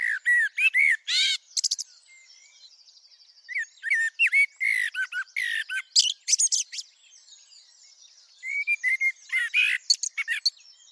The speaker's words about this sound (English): Sounds of the blackbird, and before that, the robin.